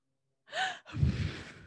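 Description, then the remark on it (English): A mother breathes heavily right up against her microphone while talking: a sharp, slightly voiced inhale followed by a longer, rough exhale with a windy low-end rumble. No one speaks. “why are you breathing so heavy into your microphone, Mom?”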